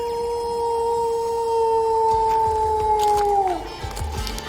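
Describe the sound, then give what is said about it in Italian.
A wolf lets out one long, steady howl that holds its pitch for several seconds before sliding downward and fading, with faint background rustle and no voices. “Quindi viva il lupo, soprattutto quello che cattureremo e che doteremo di radiocollare.”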